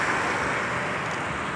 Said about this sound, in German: Der Bus.